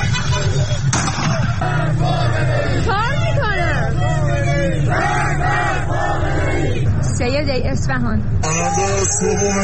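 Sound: street protest crowd chanting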